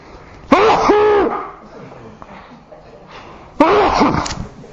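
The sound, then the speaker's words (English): Two loud sneezes from the speaker, a few seconds apart, each a sharp voiced burst with a drawn-out tail, separated by a quiet gap of faint background noise. “That's either just a sneeze or a few demons going, so it doesn't matter really, does it?”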